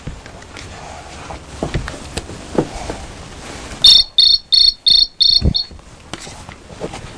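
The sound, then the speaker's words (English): A cricket chirps loudly in about five quick, evenly spaced high-pitched bursts, following a stretch of rustling and soft thumps. “That's the noise a cricket makes.”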